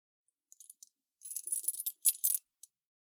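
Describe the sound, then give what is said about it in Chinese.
Metal handcuffs being handled: a few light clicks, then a longer bright jangle of clinking metal links and a couple of sharp snaps, with no one speaking. “手铐拿来给我看看。”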